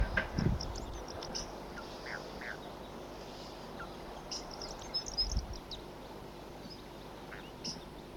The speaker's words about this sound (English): Here comes a flock, and there are the wild birds here.